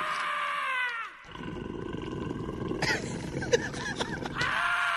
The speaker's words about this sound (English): Why do the dogs keep growling while they're eating? Oh. Someone's chewing on something. That seems odd that they keep growling as they eat.